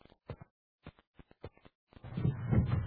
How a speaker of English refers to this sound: Sounded like a door.